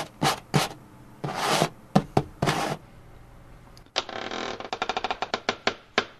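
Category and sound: household object, scratching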